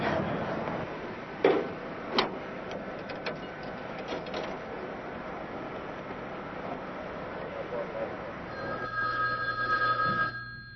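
A telephone rings on the line during an outgoing call, with clicks and handling noises early on, then a steady electronic ringback tone toward the end over a low background hum.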